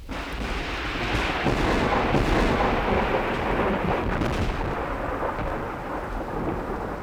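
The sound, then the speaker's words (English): A thunderstorm at an old mansion, Inverness, roars steadily, knocking down the power lines, with deep rolling thunder rumbling continuously over a dense wash of heavy rain, loud throughout, with no voices. “As once again we look in on the stately old mansion of Inverness, the storm has knocked down the power lines.”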